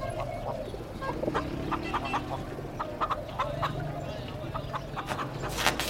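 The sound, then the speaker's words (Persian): Pigeons perched on equipment in an empty cinema coo and cluck in a series of short, repeated calls, scattered irregularly over a steady low rumble with a faint murmur of voices underneath. “کبوترا روی وسایل نشستن.”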